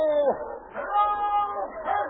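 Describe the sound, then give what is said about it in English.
A dog named King barks, a few drawn-out, yelping barks with sliding pitch, moderately faint and echoing, with no one talking. “I believe that's King's bark now.”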